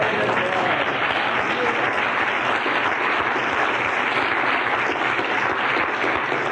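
A church audience claps steadily, a dense, even wash of many hands sustained at a constant loud level throughout, with faint voices mixed in.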